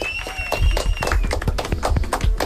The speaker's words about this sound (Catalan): Team Burton. Molt bé, aplaudiments.